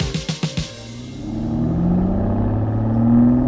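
sports car engine revving

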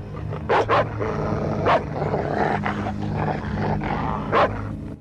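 dog barking

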